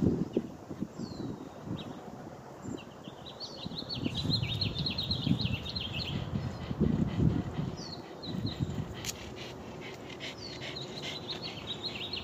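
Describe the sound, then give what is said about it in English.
Birds chirp and trill outdoors, their bright calls recurring over a steady rumble of wind and low ambient noise, with no voices present. “Sending out love and hope and awareness and bird songs as we keep turning.”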